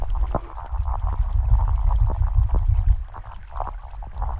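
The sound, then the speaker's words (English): A deep, continuous underwater rumble of sturgeon drumming, recorded at night by hydrophone in the Wolf River, heavy in the lowest range and swelling and fading, with faint clicks and watery knocks scattered over it. “Though most of the sound's energy is too low to hear, we can hear the top end of the drumming, as it's called.”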